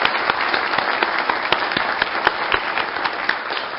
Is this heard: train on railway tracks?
no